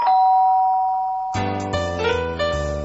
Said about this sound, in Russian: «Вот это наезд!» — взмутился папулька, и только собрался было начать с мамулькой скандал по полной программе, как в дверь раздался звонок.